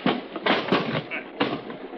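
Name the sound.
typewriter typing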